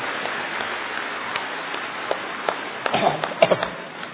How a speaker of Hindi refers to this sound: इसलिए जोरदार ताली दादी जी के लिए।